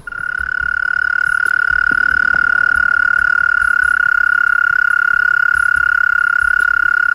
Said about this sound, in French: Aujourd'hui, même s'il devient rare de l'entendre, la courtilière reste un marqueur sonore des nuits estivales du sud de la France. C'est le moment où le mâle stridule afin de capter l'attention des femelles.